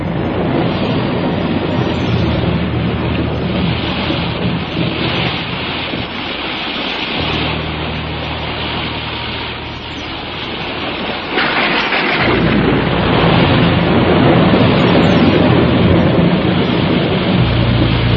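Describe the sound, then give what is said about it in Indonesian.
Heavy rain pours steadily in a dense, loud hiss while deep rolls of thunder rumble underneath, swelling and surging stronger toward the end. No voices are present. A thunderstorm under thick clouds over the town of Tumapel, from afternoon into evening. “Langit bagaikan robek, memuntahkan deras hujan, dan pijar halilintar menggelegar, membuncah dan mengejutkan.”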